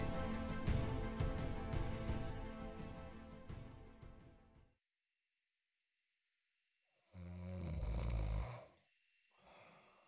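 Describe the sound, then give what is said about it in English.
Heavy, rasping snoring: a long, loud snore, a few seconds of silence, then another thick snore starting on the next breath. No talking. “Sudo waited until she could hear a steady rhythm in Etta's heavy snoring.”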